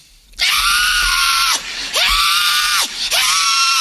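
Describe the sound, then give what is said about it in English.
A voice imitates a newborn baby screaming as it comes into the world: three loud, shrill wails in quick succession, each with a brief pause between, strained with no other speech. “Screaming, kicking, crying at the top of your lungs.”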